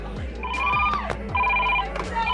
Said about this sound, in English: Oh, I got a phone call.